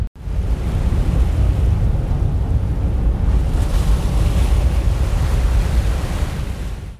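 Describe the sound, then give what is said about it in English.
Steady roar of ocean waves with gusting wind buffeting the microphone, a continuous loud wash of low rumble heard from the deck of a ship at sea in the middle of the Atlantic Ocean, somewhere behind the Canary Islands, with no talking. “Right now, we're somewhere behind the Canary Islands in the middle of the Atlantic Ocean, and we've been on this vessel for 6 days already.”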